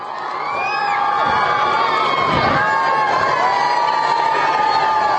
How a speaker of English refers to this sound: Earlier, the Pope met with thousands of cheering school children and students at St. Mary's University College sports field that has been inaugurated in honor of his predecessor, Pope John Paul II, and in view of the 2012 Olympic Games in London.